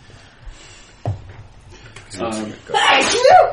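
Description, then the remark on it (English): A single loud, close sneeze bursts out near the end, preceded by a short intake and brief voiced sounds, with some quieter background talk and a soft thump earlier. “Bless you.”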